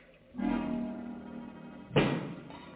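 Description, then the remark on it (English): Two separate knocks: a dull, resonant thud that rings on with a low hum, then after a pause a sharper, louder bang. No one speaks. “Makes that knocking.”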